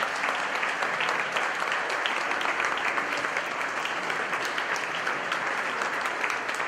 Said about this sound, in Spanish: A la salida de los restos de Marta Pacheco, los asistentes le dieron un sonoro y prolongado aplauso para decirle adiós y gracias.